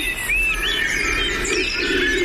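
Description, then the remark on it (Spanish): A dark-tailed laurel pigeon, a species endemic to Atlantic laurel forests, coos low and soft in the background while thin, high bird chirps and whistling calls ring out steadily over it, with no one talking. “Y ese arrullo es la paloma turquesa, es una ley endémica de las flores silvas del Atlántico.”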